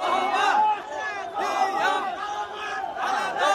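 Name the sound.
crowds cheering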